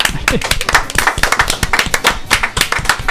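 A crowd claps steadily for a few seconds, a dense, loud patter of many hands with sharp individual claps standing out, continuous throughout with no talking over it.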